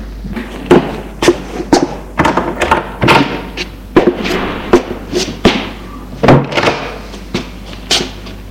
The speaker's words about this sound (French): Dans l'allée d'un vieil immeuble lugubre, il amène à l'autre bout, ouvre une porte vitrée qui donne dans une cour.